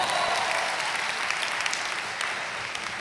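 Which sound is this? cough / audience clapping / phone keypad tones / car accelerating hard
audience clapping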